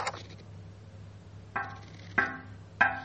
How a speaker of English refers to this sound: He knocked on the door.